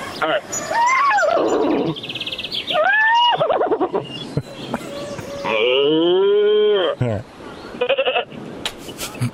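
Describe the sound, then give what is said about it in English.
A person imitates a cow, letting out several loud moos, from short rising calls to one long, drawn-out low moo that slides downward before trailing off. “I can do cow. I got... I got sheep. I got horses.”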